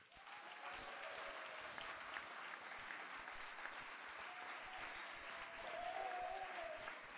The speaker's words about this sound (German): Zweitens, wer ist der Meinung, dass das Referendumskomitee den Hauptpublikumsaward des Jahres 2007 verdient hat? Bitte Applaus jetzt.